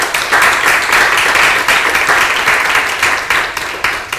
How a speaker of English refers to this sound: Thank you very much for joining us. If you don't mind giving them a round of applause.